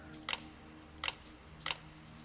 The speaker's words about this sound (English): The shutter clicked a handful of times like chattering teeth.